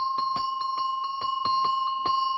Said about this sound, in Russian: Встречаются колокольчики, которые в сечении поперечном имеют не круг, а овал. Вот такие колокольчики относятся к числу подшейных, и их почему-то принято было называть цыганскими.